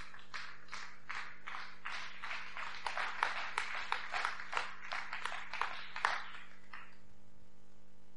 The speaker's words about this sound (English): Bwoba okuba engalo zikube. If you're clapping, you clap.